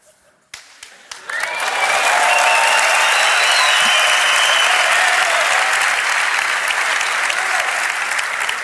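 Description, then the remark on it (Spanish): A few scattered claps quickly swell into loud, sustained applause from a large audience at a live show, a dense steady roar of clapping that carries on without letting up. “Has arrancado el aplauso como en un programa de Telecinco”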